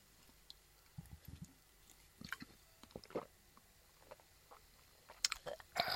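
Someone sips a cold beer just taken from the fridge, with soft wet slurps, lip smacks and a few swallows spread over several seconds, ending in a louder gulp-like burst. No talking.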